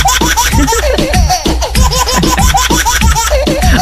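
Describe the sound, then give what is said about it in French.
A baby laughs in a continuous run of bright, bubbling giggles and squeals, loud, with rhythmic bursts and brief breaths between them. “Ça fait toujours marrer des rires de bébé, ça marche à chaque fois.”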